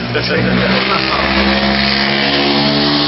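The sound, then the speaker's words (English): An old Chevy truck's glass pack exhaust rumbles loud, a deep, throaty, steady engine drone with a rich low growl that holds for the full three seconds. “It's a truck. It's an old Chevy a truck. Nice glass pack.”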